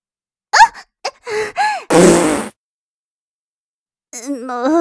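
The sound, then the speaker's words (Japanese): A loud, sputtering fart lasting about half a second, let out while the person's bottom is being wiped. It comes right after a few short vocal squeaks and grunts, and a humming, voice-like tone follows after a pause. “おなら出ちゃったじゃないですか。”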